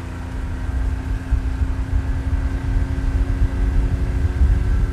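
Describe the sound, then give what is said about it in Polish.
A rescue motorboat engine on the water drones steadily for the whole stretch, a loud, even low rumble with a faint whining hum riding on top, and no voices. “A jak zobaczą ratowniczą motorówkę, to szybko wsiadają, tak?”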